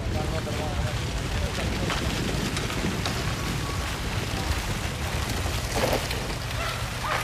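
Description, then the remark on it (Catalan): The Parc de la Ciutadella waterfall fountain in Barcelona running after being switched on at 3:15 a.m., as the city's fountains reopen after two and a half years closed by drought: a steady, dense rush of falling and splashing water that holds at an even, fairly loud level throughout, with low rumble beneath. “Sentiu com sonava a 3:15 del matí la posada en marxa de la cascada del Parc de la Ciutadella.”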